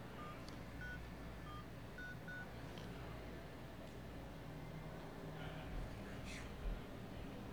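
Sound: phone keypad dialing tones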